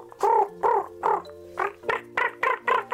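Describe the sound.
A person mimics a raven with about eight hoarse, throaty croaks: three spaced calls, then a quicker run of five, each loud and rasping with no talking.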